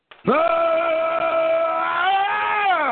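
A single long, drawn-out cat meow, loud, holding a steady whining pitch for a couple of seconds before rising slightly at the end, with no other sounds around it.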